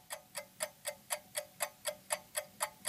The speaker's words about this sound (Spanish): Tardes en las que llegamos a escuchar el tic-tac cadencioso del segundero, pese a que hoy en día los relojes digitales ya no hacen ruido.